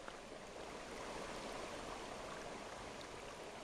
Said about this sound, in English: Water from recent spring rains rush out of Black Bass Dam spillway this morning.